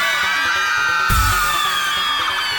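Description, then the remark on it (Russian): A big crowd of girls screams together at full volume on cue, competing with the boys to see who is loudest. It is a dense, high-pitched sustained roar that barely wavers, with a brief low thump partway through. “А теперь, девчонки, громко-громко все вместе кричим.”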